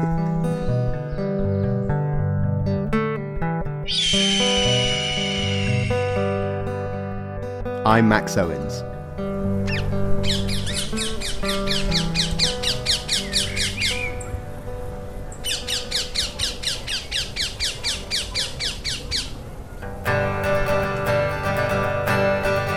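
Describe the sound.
Parakeets in London screech in harsh, rapid squawking bursts, three long loud spells, over a steady musical backdrop, with a man speaking briefly.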